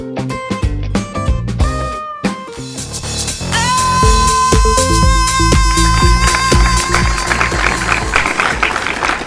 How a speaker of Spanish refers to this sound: Es que nos aplauden porque les pagamos mucho dinero, por eso nos aplauden, si no nos soltarían, nos aplaudirían, pero de otra forma.